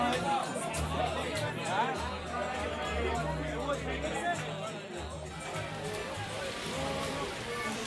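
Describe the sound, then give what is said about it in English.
A crowd of fans gathered in a town square in heavy rain before a match chatters, many overlapping voices blending into a steady, dense hubbub with a low rumble underneath and no single voice standing out. “As usual, there were fans gathered in the town square despite the heavy rain.”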